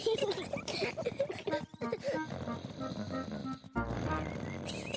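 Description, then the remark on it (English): Loud, rumbling snoring with piggy grunts from Daddy Pig, who slept in the car while camping, a voice imitating the sound in repeated nasal snorts, followed by soft background music with steady sustained tones. “What's that sound? It sounds like snoring.”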